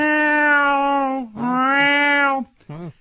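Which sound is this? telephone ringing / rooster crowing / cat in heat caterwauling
cat in heat caterwauling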